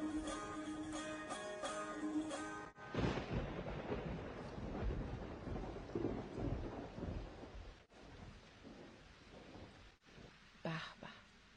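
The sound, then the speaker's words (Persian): Heavy rain pours in a steady, dense hiss, with deep rolling rumbles of thunder underneath, after a brief few seconds of tonal music at the start. “صدای باران.”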